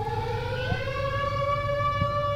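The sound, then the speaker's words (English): A steady, sustained alarm siren wails on a held tone, its pitch drifting slightly, over a low rumbling background with no voices. “Is that an alarm?”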